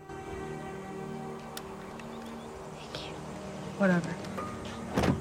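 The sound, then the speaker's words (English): A steady electric motor whine hums as a car's power window slides down, with a couple of soft thuds and rustles near the end. “He looks through the glass at Claire, then lowers the electric window and passes her the tape.”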